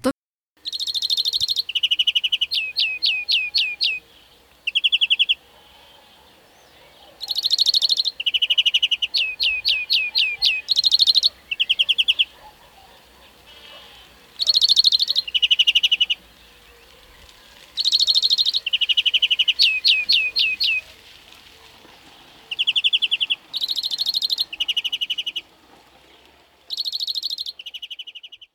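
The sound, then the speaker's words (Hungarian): A European serin sings: high, rapid, jingling trills delivered in repeated bursts with short pauses between them, bright and fairly loud with no voices. “A jobban éneklő egyedek éneke némileg a kanárihoz hasonlít.”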